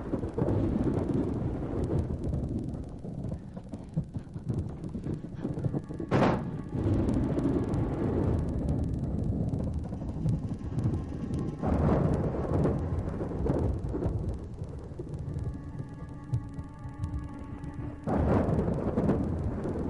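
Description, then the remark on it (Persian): Loud thunder from a severe thunderstorm at night rolls in a heavy, continuous rumble, broken by a few sharp cracks overhead, with no voices present. “حالا یادم اومد، مامان میگفت روزی که ساعت گم شد همون شبش یه رعد و برق شدید همه رو ترسون.”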